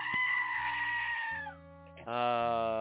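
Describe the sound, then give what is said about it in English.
A goat bleats loudly in two long, wavering calls: a drawn-out cry that trails off, then after a short pause a second, strained bleat. “What would life be without the goat?”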